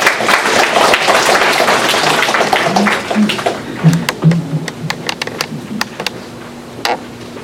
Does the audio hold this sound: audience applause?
yes